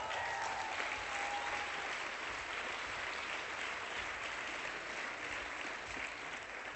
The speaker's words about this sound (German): An der richtigen Stelle Applaus, sehr schön, das tut mir gut.